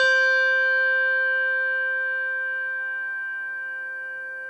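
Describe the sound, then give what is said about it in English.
A Schulmerich handbell with tang struck once, ringing alone with a bright metallic tang and clear sustained overtones that fade slowly over several seconds. “Schulmerich bell with tang.”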